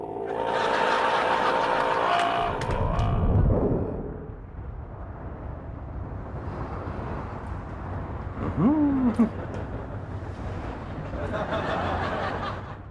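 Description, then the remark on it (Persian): Steady traffic noise fills the scene, with a loud engine rumble at the start, then a continuous wash of passing cars and a brief rising tone partway through. “امروز یکم یه ترافیکه.”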